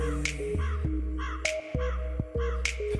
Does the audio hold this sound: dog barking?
no